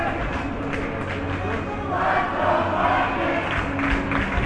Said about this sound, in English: Tremendous crowd on a Wednesday night. A snowy Wednesday night.